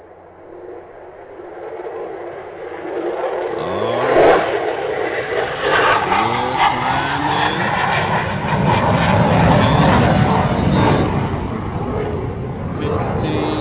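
airplane taking off

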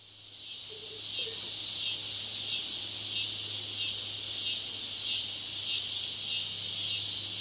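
crickets chirping at night

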